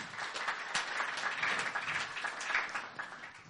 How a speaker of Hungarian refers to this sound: Egy tapsal köszöntjük, itt néhányan itt vannak a Tatabányai gyülekezetből.